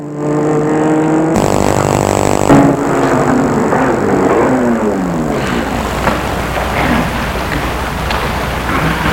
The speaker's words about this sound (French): va arrêter la voiture devant chez lui. Il dit, nous sommes arrivés.